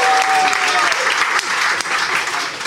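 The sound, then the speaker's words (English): A crowd bursts into steady, loud applause, dense clapping filling the space continuously for a few seconds without pause, with a faint whistle or cheer at the start. “Give her a round of applause. She needs it.”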